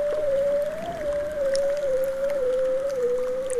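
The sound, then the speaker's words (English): A long, steady underwater tone from a bearded seal in the Arctic, recorded with a hydrophone, slowly glides downward in pitch like a drawn-out trill, heard alone against a constant low hiss of water. “From the bearded seals in the Arctic, you can hear them very clearly.”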